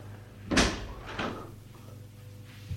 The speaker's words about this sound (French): Et le petit orbé ferme la porte.